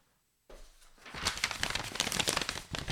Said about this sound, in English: Someone just sent a paper airplane through my window. Let me unfold it.